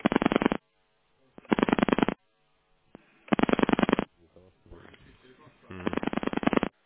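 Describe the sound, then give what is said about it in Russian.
Random telephone keypad buttons pressed on a phone in tone dialing mode, producing four loud electronic dialing tones, each lasting under a second with short pauses between them. A faint, muffled voice or rustle comes before the last tone. “У вас телефон, скорее всего, находится в тональном режиме.”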